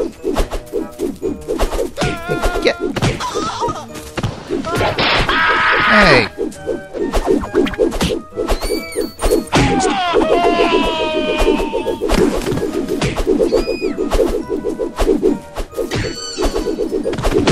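Rapid video game punch hits land in quick bursts, sharp thwacks and smacks piling up over busy game sound effects and music, with the occasional voice chiming in.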